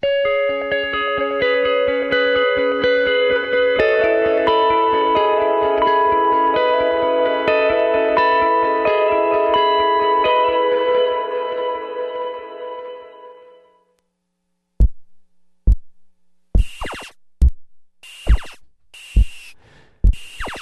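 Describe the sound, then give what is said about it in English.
Space Invaders arcade video game sounds: electronic tones warble and repeat in a dense, buzzing stream that fades out, then after a brief pause come a series of sharp, bright blasts in an uneven rhythm. “That's the sound of Space Invaders”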